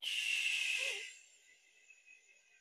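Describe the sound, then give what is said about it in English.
A slow, airy breath rushes in through the nose for about a second, then tapers into a soft, quiet exhale, during a calming breathing exercise. No one speaks. “Again, in through your nose. And let the air out slowly.”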